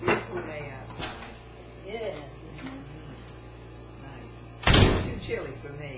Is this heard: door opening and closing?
yes